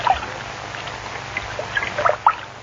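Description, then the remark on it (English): Water trickling and splashing into a bathtub, a steady soft wash dotted with bright drips and small splashes, moderate in level, with no voices. “The water may be hot, and the tub may be slippery.”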